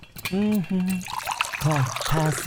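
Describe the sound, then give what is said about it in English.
Tea pours in a soft, steady trickle, splashing gently into a cup as tea time is prepared, while a voice hums or murmurs over it in short tuneful bursts. “Tea time. Getting ready for tea time.”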